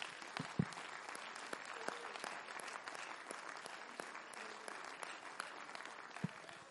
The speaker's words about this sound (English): Would you clap your hands for the word of God today?